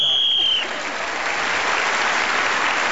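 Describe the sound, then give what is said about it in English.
A single shrill, steady referee's whistle blast lasting about half a second, ending the round while Ross Noble was speaking, quickly swallowed by loud, sustained applause from an audience that carries on to the end. “So, Ross Noble was then speaking as the whistle went.”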